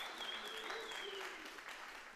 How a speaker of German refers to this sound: Okay. Einen großen Applaus.